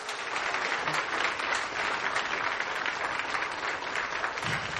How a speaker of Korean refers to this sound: 그 실력보다 사실은 더 우리가 박수를 쳐드리고 싶은 것은 그 바쁜 가운데 이렇게 열심히 준비해 주신 헌신과 열심, 열정 정말 대단한 것 같습니다. 다시 한번 박수 부탁드리겠습니다.